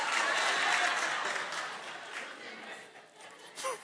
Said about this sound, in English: Now the women clap.